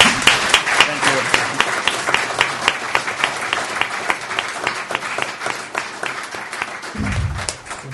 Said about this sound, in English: Thank you very much. And we don't usually encourage applause in this place, but I'm going to.